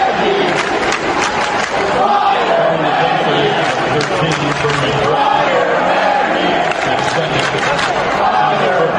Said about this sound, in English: Let's crank this up, and then I'll describe what this is. Listen to this crowd and what they're chanting.